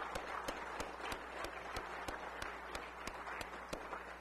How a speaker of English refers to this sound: I am so thankful for the unsung heroes of the faith that are the Christian school teachers, administrators, and staff members. I believe they deserve a round of applause tonight. Let's give them a round of applause.